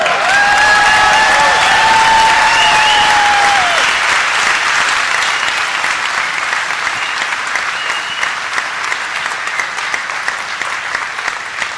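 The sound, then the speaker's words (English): A large crowd at a live performance applauds loudly and continuously, dense clapping with cheers and whistles rising early on before the ovation settles into a steady roar of hands. “Biggest crowd's got to be here. Yeah. We're here right now, and this is definitely it.”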